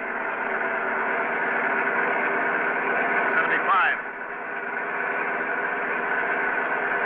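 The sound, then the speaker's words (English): A car engine roars steadily at high speed, the speedometer needle pushing 70, loud, its drone holding strong with a brief rising whine midway before settling back into the same hard, sustained run. “The needle's pushing 70.”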